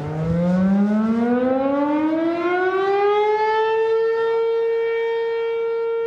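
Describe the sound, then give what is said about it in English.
A loud town siren in Minden winds up from a low growl to a high, steady wail, rising smoothly over several seconds and then holding its pitch, with no voices present. “For the record, we never saw anyone pause for a moment of silence during the siren.”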